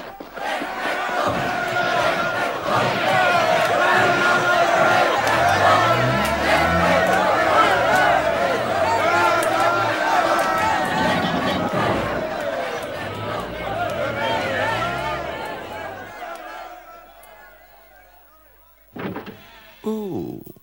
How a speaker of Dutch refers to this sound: De chauffeur kan slechts met moeite zijn auto door de mensenmassa heen manoeuvreren. Opzij, de aartsbisschop, opzij jullie!